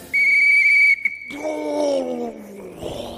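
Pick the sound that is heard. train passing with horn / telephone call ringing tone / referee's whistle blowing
referee's whistle blowing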